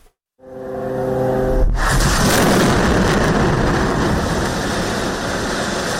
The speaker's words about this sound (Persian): غرش جیت‌های جنگی اسرائیل و سپس صدای چندین انفجار. این وضعیت دیشب نیز در نوار غزه ادامه داشت.